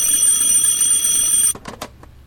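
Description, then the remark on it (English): A high, shrill electronic telephone ring announcing an incoming call sounds steadily for about a second and a half, then cuts off abruptly, followed by a few quick, sharp clicks. No one speaks. “We're getting a call.”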